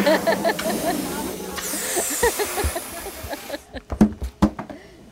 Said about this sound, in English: And in today's Atlantis Sound, we find one local woman who starts each day at the helium tank. The noise is quite something. Lots of popping, like that, right on cue.